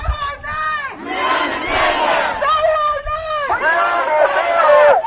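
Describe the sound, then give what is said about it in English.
A large crowd of Black Lives Matter supporters in the streets of Louisville, Kentucky chants the name Breonna Taylor loudly in unison, rising and falling in repeated rhythmic phrases, with shouts layered over a steady roar of many people. “Chanting the name Breonna Taylor, the 26-year-old emergency room technician who was shot in the hallway of her apartment by police officers executing a search warrant.”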